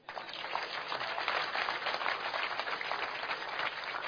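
A crowd applauds steadily for a few seconds, many hands clapping together in a dense, continuous wash of sound with no voices rising above it.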